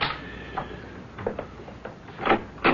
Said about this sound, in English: Just a minute. Someone seems to be knocking on the door. I haven't the faintest notion who it might be, but I shall find out.